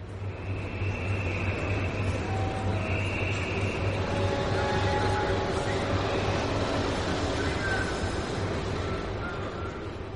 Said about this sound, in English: you have to put your car on a train. The journey takes an hour and a half